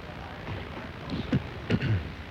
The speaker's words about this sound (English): is clicking his pen, and he won't stop.